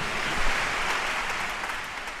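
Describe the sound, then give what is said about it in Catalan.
Steady applause from a large audience at the Orquestra Simfònica Sant Cugat concert Valsos i Danses on 27 December 2022, a dense continuous wash of clapping at an even, fairly loud level throughout with no voices standing out. “O sigui que un fort aplaudiment”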